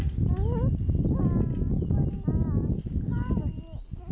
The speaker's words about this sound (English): What a noise! Yeah, it's a car alarm, isn't it?